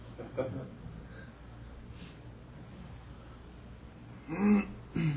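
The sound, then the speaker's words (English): Someone blows their nose: a faint snuffle early on, then a louder, rough nasal blast near the end, followed by a short snort. “who thinks he's blowing his nose.”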